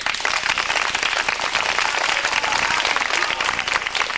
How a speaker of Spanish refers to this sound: ¡Un aplauso, pues!